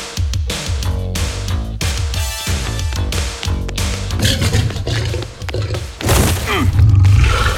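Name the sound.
lion roaring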